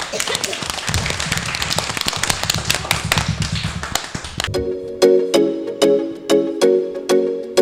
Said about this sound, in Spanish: Lo habéis hecho magnífico. Venga, un aplauso para todos.